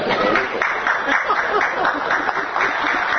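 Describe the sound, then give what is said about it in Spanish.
An audience claps steadily for about three seconds, a dense, even wash of many hands at moderate loudness with a faint murmur of crowd voices mixed in. “No les gustó, no son palmas argentinas”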